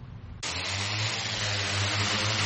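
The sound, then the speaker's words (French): A crop-spraying drone on the island of Zanzibar, used against malaria by spraying a silicon solution over stagnant water: its rotors kick in abruptly after a quiet low hum, becoming a loud, steady whirring roar with a deep droning tone underneath that holds unchanged to the end. “Des drones comme celui-ci pulvérisent une solution de silicium au-dessus de l'eau stagnante, formant une fine couche qui empêchera éventuellement les œufs de moustiques d'éclore.”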